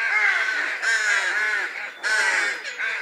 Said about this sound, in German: Ein wildes Vogelgezwitscher. Laien werden kaum heraushören können, ob es sich um Vögel einer einzigen Art oder verschiedener Arten handelt.